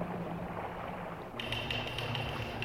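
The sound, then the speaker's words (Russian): Muffled background noise, then a quick run of light knocks or taps, signals from someone in a cabin below, starting midway and continuing in a rapid, uneven patter until the end. “Там в каюте кто-то стучит.”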